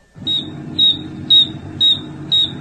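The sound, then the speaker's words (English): Five evenly spaced, shrill insect chirps ring out about twice a second, each a short high-pitched trill from wing stridulation, made by a wing file 1 centimeter long with no fewer than 575 ridges, over a faint low rumble with no voices. “The wing was magnified 600 times, and it was discovered that on a file 1 centimeter long, there were no less than 575 ridges. Consequently, the sound reproduced is of a very high frequency.”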